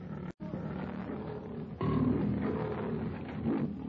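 A half-starved lion roars loudly as it launches into a rushing charge, a deep rumbling growl that swells after a brief gap, then rolls on in sustained, throaty bursts.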